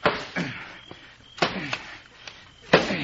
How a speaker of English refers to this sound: Well, open it up. We got to be sure. Knock the lock off with the shovel. All right, here goes. Stand back.